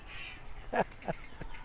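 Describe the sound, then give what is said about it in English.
A creaking bin gives three short, honking squeaks that sound like a goose, the first loudest, spaced a few tenths of a second apart against a quiet background. “Oh, it's a bin.”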